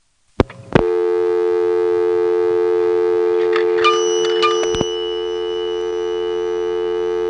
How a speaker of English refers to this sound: Since the local call did not complete, there is a normal coin return at the end, which is then followed by another dial tone, of course.